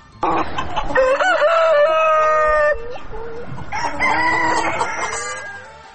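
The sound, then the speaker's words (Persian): A rooster crows loudly twice in long, drawn-out calls, with hens clucking around it in a lively farmyard chorus. No one speaks. “همچنان گزارش میشنوید در این مورد که شیوع ویروس کرونا در استونیا بازار فروش مرغ و کرایه مرغ را پر رونق کرده.”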